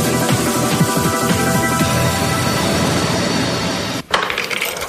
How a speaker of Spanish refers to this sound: Oye, creo que han forzado la puerta. ¿Nos habrán entrado en casa?